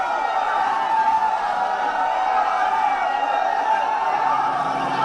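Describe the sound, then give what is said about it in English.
A large crowd of protesters at a massive police barricade at a port roars continuously, many voices shouting and calling over one another in a dense, steady wash of noise that stays loud for the whole stretch. “But as the ambassador's comments ring out at the port, protesters are met by another massive police barricade.”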